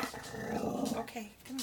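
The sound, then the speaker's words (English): An upset dog named Miss Pig growls low and steadily for about a second, a rumbling sound that softens, while a person speaks a few words over and after it. “Oh, look. Oh, you upset the dog.”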